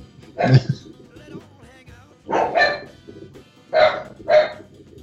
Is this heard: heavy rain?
no